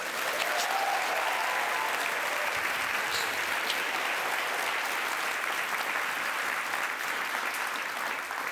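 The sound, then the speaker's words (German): A live audience at the Bernard Theater Zürich, during the Book Love Festival, applauds steadily, a dense wash of many hands clapping at an even, sustained loudness for several seconds with no voices standing out. “Liebes Publikum, könnt ihr euch schnell bemerkbar machen?”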